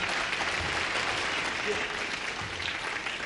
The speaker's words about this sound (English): I want you to give him a big round of applause.